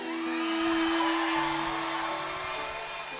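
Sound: crowd cheering and whooping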